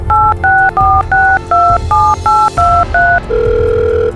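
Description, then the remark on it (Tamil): A quick series of ten DTMF keypad tones, evenly paced two-note beeps, as a police inspector slowly dials a number on his cell phone, followed by a steady ringback tone. No one speaks. “ஆனால் இதை புரியாதவங்க மேலிருந்து கேள்வி கேட்க ஆரம்பிச்சா இந்த டேயினுடைய ப்ரெஷர் இன்னும் ஜாஸ்தியாகுன்றதுனால மெதுவா எழுந்து தன்னுடைய செல்போன்ல எண்களை ஒற்ற ஆரம்பிக்கிறாரு.”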